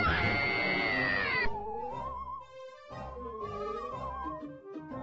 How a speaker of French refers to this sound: Car à chaque fois que vos gobelins ont peur, ils poussent un hurlement et leur barre d'énergie diminue.